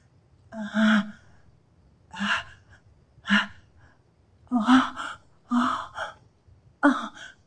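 A woman's tense, breathy gasps during sexual arousal as she tries to hold on to the feeling of arousal, about seven of them in uneven bursts separated by short pauses. They are fairly loud, with no talking.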